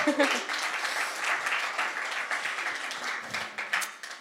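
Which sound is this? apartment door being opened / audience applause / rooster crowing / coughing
audience applause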